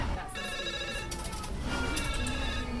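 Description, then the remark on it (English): A telephone rings in the Accident and Emergency department of Sheffield Children's Hospital, its bright electronic tone trilling in repeated bursts over a steady low background rumble and faint murmur. “They receive thousands of phone calls each year.”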